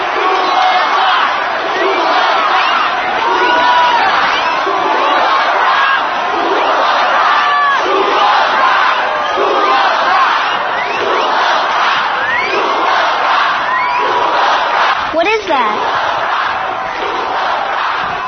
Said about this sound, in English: It's an encore. They want us to go play another song.